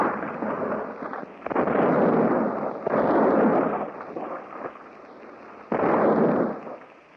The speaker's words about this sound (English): Hour upon hour, the rattling roar of cannon shatters the peaceful morning, turning the Esmeralda into a mass of crumpled rails, broken stanchions, and splintered wood.